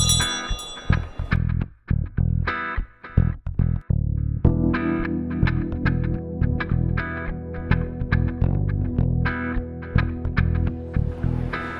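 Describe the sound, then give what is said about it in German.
A bell rings again and again in quick, uneven strikes, each leaving a bright sustained tone that blurs into a loud, echoing, somewhat distorted wash. No one speaks. “Und wenn ich die Glocke höre, dann weiß ich immer, wo du bist.”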